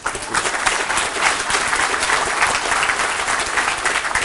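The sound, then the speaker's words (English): An audience applauds steadily at the end of a talk, a dense wash of many hands clapping at once with no break, holding a fairly even loudness throughout and no voices rising above it. “But first of all, clap before everyone leaves.”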